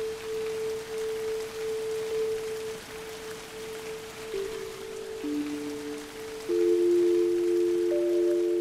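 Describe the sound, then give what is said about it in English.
Steady rain with larger and smaller drops, falling sometimes heavily and sometimes lightly, hisses evenly throughout, with a few sustained, humming tones layered over it that shift in pitch and grow slightly louder near the end. “This is the rain.”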